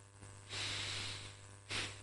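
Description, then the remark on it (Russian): A loud, deliberate breath drawn sharply in through the nose, followed by a second shorter, forceful nasal breath, with a faint low hum underneath and no speech. “Допустим, право, я могу дышать.”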